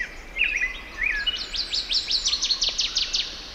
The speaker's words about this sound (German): Das ist doch mal ein richtig schönes Vogelkonzert gewesen.